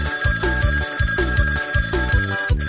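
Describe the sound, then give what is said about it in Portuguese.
A telephone rings with rapid, bell-like trills repeating in a steady rhythm, loud, layered over a busy musical backing with a thumping low beat. “o telefone está tocando.”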